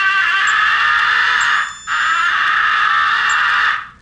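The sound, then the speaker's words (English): A dying crow call blown on a hand call: two long, strained, raspy wails separated by a brief gap, loud and steady before fading out, with no voices. “The dying crow call is occasionally successful when given to incoming crows.”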